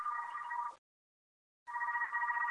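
A telephone rings in two steady, trilling bursts separated by a short pause of silence, loud and close with no voices present.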